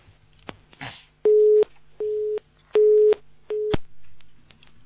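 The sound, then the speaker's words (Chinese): A mobile phone busy tone, after a call dropped because of a poor signal, sounds alone: four steady, medium-pitched beeps in a regular on-off pattern, loud and clear, with a few faint clicks and line noise between them. “信号不好嘛，就断掉了，不要动了，不能动的。”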